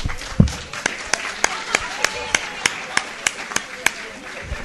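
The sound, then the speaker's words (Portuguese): Steady, evenly spaced hand claps ring out over a soft background murmur at a lecture, a modest round of applause for a speaker rather than a roaring crowd, lasting several seconds at a moderate level. “nosso amigo Rubens merece uma grande salva de palmas”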